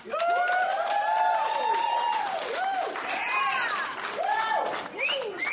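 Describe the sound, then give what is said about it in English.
An audience bursts into steady applause in answer to a question about who has divorced parents, dense clapping that holds for several seconds, mixed with rising and falling whoops and scattered shouts from the crowd. “By round of applause, how many of you have divorced parents?”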